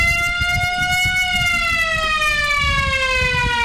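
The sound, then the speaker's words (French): A loud, sustained siren at a high school in Sakassou, Gbeke region, sounding at 8 a.m. to start the written baccalaureate exams of 2023, wails steadily with a slowly falling pitch, its tone ringing strong over low rumbling background noise, with no voices. “La sirène qui vient de retentir à 8h au lycée moderne à Koto Yao de Sakassou donne ainsi le coup d'envoi des épreuves écrites de l'examen du baccalauréat session 2023 dans la région de Gbeke.”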